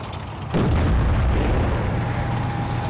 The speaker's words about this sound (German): Häuser explodieren und Brücken werden gesprengt. Panzer rücken vor. Sind Bilder eines Angriffskrieges.